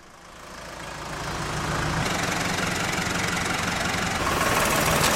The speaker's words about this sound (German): Es läuft etwas im Landwirtschaftlichen Zentrum Eberrhein. Junge Frauen auf 6 riesigen Traktoren fahren durch ein Slalom-Parcours und um andere Hindernisse herum.